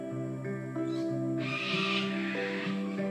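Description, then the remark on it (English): Ibis calling in overlapping, drawn-out tonal cries that run continuously, with a harsher, noisier burst of calls in the middle; several birds, no talking. “Ibis are in the background. There's so many birds here.”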